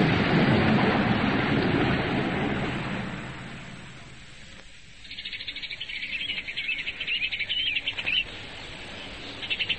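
Broad, rushing noise fades away, and then a dense chorus of birds in ornamental trees at the Sternwood place, after rain, chirps and trills continuously and fairly loudly, many voices overlapping in a busy, bright twitter.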